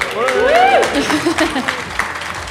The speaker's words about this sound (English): Today's episode also happens to be our first live episode of Gutcast, so we are very excited to have you here. Do you want to give me a big cheer to let people know that you're here?